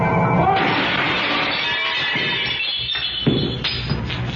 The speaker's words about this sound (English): The guy on the grass. He fell right through a plate glass window.